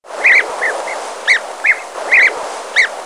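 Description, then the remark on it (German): A European bee-eater gives short, rolling, liquid calls, repeated every half second or so in an irregular series. They sound clear over a steady hiss of outdoor background noise. “Denn der exotisch bunte Bienenfresser mit dem weich-melodischen Gesang gehört hier eigentlich gar nicht hin.”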